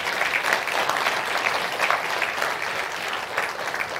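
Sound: audience hand clapping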